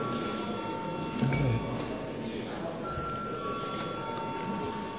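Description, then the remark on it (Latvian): A parliament chamber bell rings before a vote on a film law bill in its final third reading, a steady, high metallic tone sustained throughout, over a low murmur of voices and shuffling, with a brief thump partway through. “Cienījamie kolēģi, aicinu balsot par likumprojektu kopumā galīgajā trešajā lasījumā. Paldies, lūdzu zvanu.”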